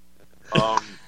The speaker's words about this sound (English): That full disclosure, that was you coughing. That could be somebody with Corona that just smoked weed.